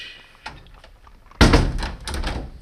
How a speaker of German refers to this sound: Sir James Demery. Der Vierspänner, in den er gerade gestiegen ist. Siehst du ihn? Da, jetzt fährt er ab. Das Wappen auf der Tür.